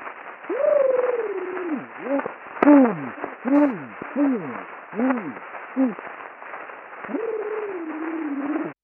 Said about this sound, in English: These are actually some of the earliest recordings we have. This one dates back to 1881. Okay. I love this one.